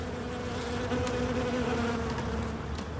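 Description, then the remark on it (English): A steady, dense drone of honeybees buzzing at rooftop hives on the Paris Opera, tended by a beekeeper, many wings humming together at a constant low pitch with faint outdoor ambience and no talking. “Tending his bees.”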